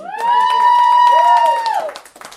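An audience applauds with a steady patter of claps while a loud, sustained whoop or whistle rises over them, then the clapping tapers off into scattered claps.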